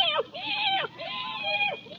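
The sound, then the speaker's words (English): A cat meows at night with no moon, in a couple of long, drawn-out cries that rise and fall in pitch, fairly loud, one following right after another. “Hello, kitty. Hey, kitty, kitty, kitty, kitty.”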